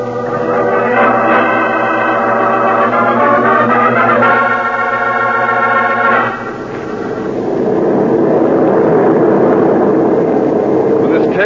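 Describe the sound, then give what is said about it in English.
An airplane flying to New York drones loudly and steadily throughout, its engine tone shifting partway through before settling into a broader, rushing roar. “order a plane for New York.”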